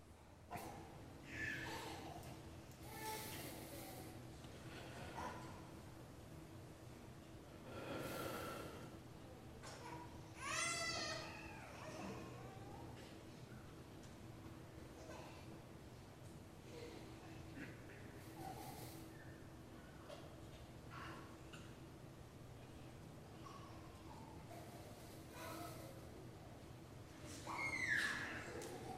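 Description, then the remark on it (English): A hushed room filled with soft, uneven breaths and faint snuffles from several people sitting in silence during a prayer, with a baby's brief babbles and coos rising now and then in the background. “Just the breathing in the room.”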